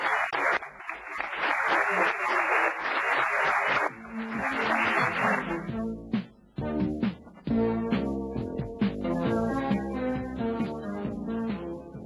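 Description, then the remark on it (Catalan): An audience in Tossa applauds loudly at the close of the fifth Catalan law conference (jornades de dret català), 1988, in a dense, steady wash of clapping for about six seconds, with a brief dip midway, before the clapping gives way to music. “Tots volem les jornades amb un aplaudiment per la nostra evolució.”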